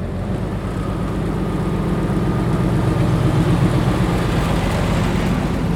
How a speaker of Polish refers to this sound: Tak brzmi bowiem jedna z ostatnich w Polsce i jedyna czynna w regionie kolej wąskotorowa. Jej stację odnajdziemy w Rogowie. Obecnie wozi już tylko turystów.